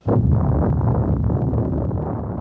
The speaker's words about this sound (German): Das ist das Originalgeräusch der ersten Atombombe, die im Juli 1945 in der Wüste von Neumexiko explodiert ist.